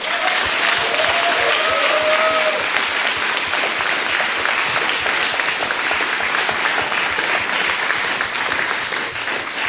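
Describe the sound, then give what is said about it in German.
A crowd applauds the event's organizers steadily, the dense clapping holding at a loud, even level for the whole stretch, with a few faint whistles or cheers rising briefly near the start. “Das heißt, der nächste Applaus ist einmal noch für euch fürs Organisieren.”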